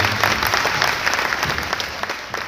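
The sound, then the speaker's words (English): A crowd claps steadily in a loud, dense round of applause, many hands overlapping into a continuous wash of sharp patters with no voices heard, thanking the volunteers who ran an annual event. “So we did want to say thank you, and I'd like for you guys to give them a round of applause.”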